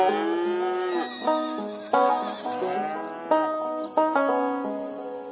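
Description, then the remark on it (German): Cattle moo in long, drawn-out calls, one after another, loud, in a video game's countryside landscape, with a steady high chirr of crickets in the background and no one talking. “Es blöken Schafe, muhen Kühe und zirpen die Grillen.”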